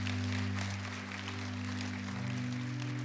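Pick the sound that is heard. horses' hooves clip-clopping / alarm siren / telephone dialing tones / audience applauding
audience applauding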